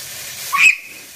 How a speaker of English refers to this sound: as she cooks chicken in hot oil. We'll be able to hear she's a little bit nervous.